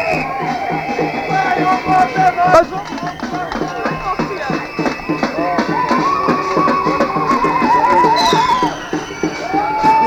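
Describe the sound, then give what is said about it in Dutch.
A horse stuck among bicycles whinnies amid a steady patter of hooves clopping on hard ground, fairly loud, with a busy crowd murmuring in the background. “Nou, staat het paard klem vanwege fietsen.”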